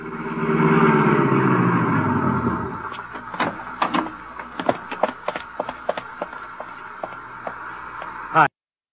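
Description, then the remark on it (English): A car engine revs loudly and winds down over a couple of seconds as a car is driven out to the Metropolitan Arena, then a scatter of sharp clicks and knocks follows, ending in one abrupt thump. “I stumbled to the elevator, went downstairs, found my car, and drove out to the arena.”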